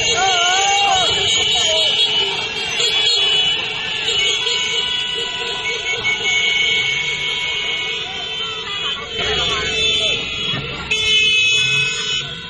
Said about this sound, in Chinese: 巡游的过程中，不就有人开始喊起来了，起义啦起义啦，还有人鸣笛。